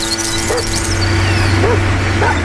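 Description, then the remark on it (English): A dog gives three short, yipping barks spread across a few seconds, fairly faint beneath a steady, droning engine-like hum that runs throughout. “Oh, hey, there's a dog.”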